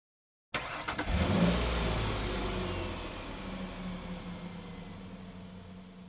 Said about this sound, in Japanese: 彼は足取り重く、会社から離れた駐車場に停めてある自分の車まで歩き、それに乗り込んでエンジンをかけた。